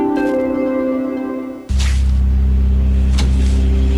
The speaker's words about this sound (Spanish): Se suponía que era un día normal. Había mucho tráfico, como siempre.